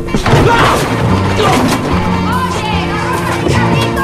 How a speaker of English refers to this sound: He reaches his floor and peeps cautiously along the corridor. He runs again and collides with a cleaning trolley.